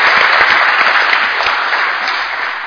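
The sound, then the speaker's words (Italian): A room full of people claps steadily to salute departing speakers, a dense, continuous patter of applause holding at an even loudness for a few seconds, lively, with no voices rising above it. “Saluto i relatori che vanno via, li ringrazio ancora e li saluto con un grande applauso.”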